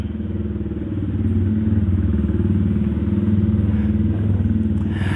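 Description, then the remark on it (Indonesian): A loud motorcycle engine drones, its low, steady rumble swelling slightly as it passes, with a rough throbbing texture and no voices over it. “Berisik banget motor.”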